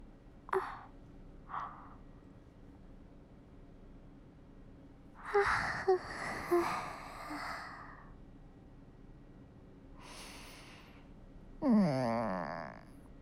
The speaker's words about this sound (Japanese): 相棒のあくび映されたけど、なんかこういう眠気は悪くないね。